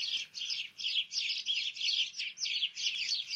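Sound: sparrows chirping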